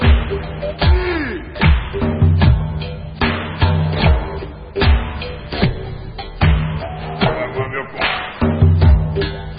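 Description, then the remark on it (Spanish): Repeated knocking on a door, a long irregular series of solid thuds and raps, fairly loud, with a steady low hum running underneath. “¡Pam! ¡Pam! Dispara la puerta.”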